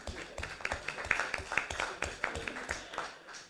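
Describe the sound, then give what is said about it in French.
A small group at a municipal council meeting claps for a few seconds, a steady patter of sharp hand claps at moderate loudness, with a faint murmur of voices underneath. “Voilà, donc je voulais vous applaudir pour ça.”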